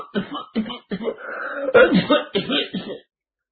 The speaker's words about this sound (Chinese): 说着说着还咳嗽上了。